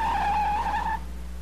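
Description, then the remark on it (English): Detective Allen's car's tires squeal loudly for about a second as it peels away with Gordon aboard to pursue a black car, a steady high screech over a low engine rumble that fades out once the skid stops. “Gordon runs around the passenger side and gets in and begins their pursuit.”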